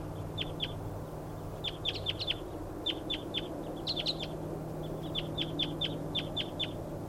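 Wild birds calling as they come in to decoy calls at 6:47, in quick, high-pitched chirps, bursts of two to four notes repeating throughout, over a steady low hum with no one talking.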